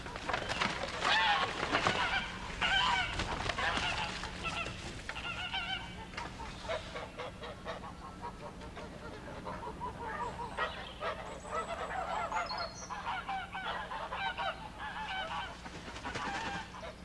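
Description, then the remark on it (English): A flock of geese huddled in the corner of a yard honks continuously and loudly, many overlapping nasal calls forming a steady, chaotic chorus with no one speaking. “My sister had told me that I might have the pick of her geese for a Christmas present.”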